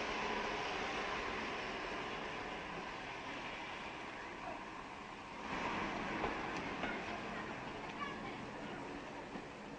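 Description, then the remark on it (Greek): A train pulls away from a station with a steady, broad rumble and hiss that swells a little partway through. Excited voices, including children's, mix into the background. “Αχ, θα κάσω το τρένο ρε παιδιά!”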